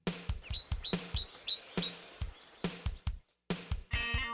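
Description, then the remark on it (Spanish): A small bird chirps in a quick series of bright, high tweets, repeated several times over a steady, rhythmic musical beat. “Can you sing like a birdie? ¿Puedes cantar como un pajarito?”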